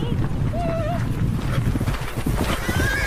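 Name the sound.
horses approaching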